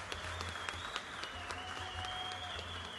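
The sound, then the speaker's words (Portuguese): Sustained audience applause at the 39th Carijo for the best performer, a dense wash of clapping hands with scattered sharper claps standing out, steady and moderately loud throughout with no voices. “Palmas, por favor.”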